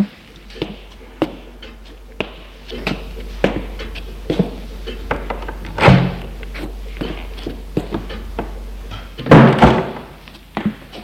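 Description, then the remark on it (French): A door is opened, with a latch clunk and a heavier knock-and-rattle near the end, preceded by scattered light taps and footsteps over a low hum. “Et le conduit à l'étage, longe un couloir, ouvre une porte.”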